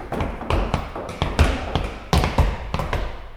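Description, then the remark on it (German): A run of irregular knocks and dull thumps, some booming low and heavy, others lighter taps, landing in quick succession over a busy, rumbling background with no voices. “Die anderen heulen, jauchzen, klopfen oder poltern.”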